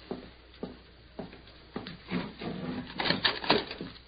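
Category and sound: household object, door being opened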